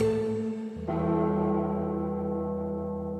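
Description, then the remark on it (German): A deep, heavy bell tolls, with one stroke still ringing before a second loud strike that hangs and slowly fades, as in the slow intro of a song. These are not church bells; the song is the entrance music played when the teams walk out at the Millerntor stadium in Hamburg. No voices. “Es sind keine Kirchglocken. … von …, die Erkennungsmusik läuft, wenn am Millerntor die Mannschaften einlaufen.”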